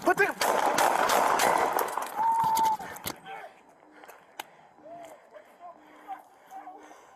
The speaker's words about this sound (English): Shots fired.